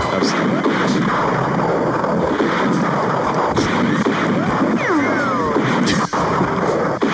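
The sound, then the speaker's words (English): A loud, chaotic Western-style gun battle: dense, overlapping six-shooter gunfire with whining ricochets off a cannon sweeping downward and heavy booming cannon blasts, continuous for the whole stretch with no talking. “One person is using a six shooter, which is ricocheting off of the cannon that's shooting at the other guy.”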